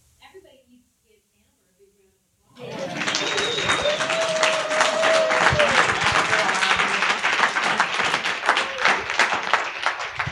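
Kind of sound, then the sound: crowd, audience applause and clapping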